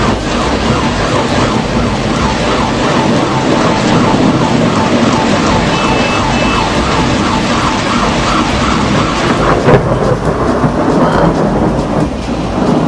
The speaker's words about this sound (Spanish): Estos inusuales rayos y truenos estuvieron acompañados de una intensa lluvia. Sorprendió a los ciudadanos alrededor de las 10 de la noche.